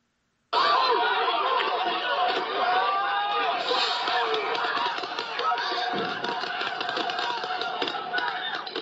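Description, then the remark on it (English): A large protest crowd shouts and jeers continuously, taunting police officers. A dense, loud wall of overlapping voices starts abruptly and never lets up, with occasional sharper bursts cutting through the din as law enforcement fires pepper spray. “You can hear law enforcement firing pepper spray as crowds taunted officers.”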